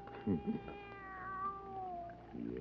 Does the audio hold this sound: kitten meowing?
yes